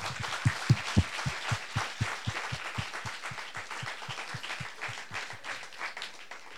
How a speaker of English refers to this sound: So a round of applause for the four people who are leaving the national team this year and have served Hong Kong so proudly.